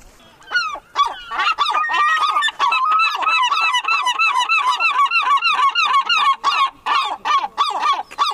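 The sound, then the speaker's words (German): Three seagulls calling together, a loud, overlapping chorus of harsh, repeated squawks and yelps that runs on almost without pause. No one speaks. “Ich glaube, das haben die jetzt extra für uns gemacht, ihr drei kleinen Möwen.”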